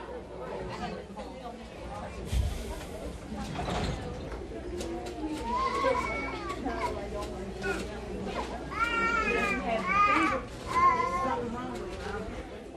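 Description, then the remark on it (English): Children cry and wail in a busy waiting room where doctors and nurses give emergency care, their rising and falling sobs standing out over a steady murmur of chatter and background voices. “I heard some children crying in that waiting room.”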